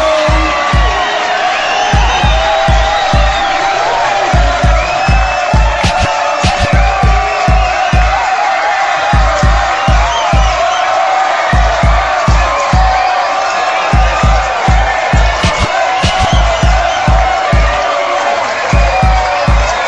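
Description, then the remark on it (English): A loud crowd of men shouts "ho" together in answer to an MC's call, their voices massed over a steady, pounding bass beat that runs throughout. “All the fellas say ho.”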